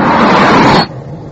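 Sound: car approaching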